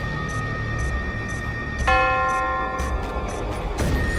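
Church bells in a bell tower, rung by two friars, Francisco and Juan, calling for help, ring out clearly with a strong struck tone that hangs and decays, followed by another strike near the end, over a steady background of lower rumble and repeated faint chimes.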